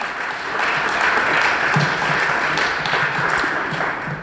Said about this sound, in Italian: Applauso